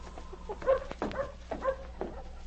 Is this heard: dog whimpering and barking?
yes